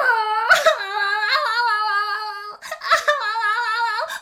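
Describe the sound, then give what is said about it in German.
A voice imitates a brownie's loud, drawn-out crying and whimpering after its foot was struck by embers from the fireplace, in two long wailing bursts with a brief catch of breath between them, the pitch wavering and quivering throughout. “So ein kleiner Brownie ist sehr schmerzempfindlich und nun fing er an zu heulen und zu schreien.”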